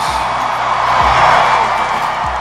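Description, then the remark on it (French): A large New York crowd in the stands at the US Open tennis tournament applauds and cheers loudly for Serena Williams at night, a dense, steady roar of clapping and shouting that fills the whole short stretch without letting up. “Les applaudissements, les cris même du public new-yorkais, c'était cette nuit à l'US c'est Open.”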